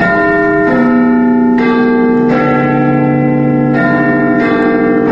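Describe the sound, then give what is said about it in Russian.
Big Ben, the 13-ton bell in the 61-metre clock tower of the British Parliament in London, chimes loudly, a series of about five deep strikes in a slow melodic sequence, each tone ringing on and overlapping the next. No voices. “Однако первоначально так называли лишь большой 13-тонный колокол, установленный внутри башни.”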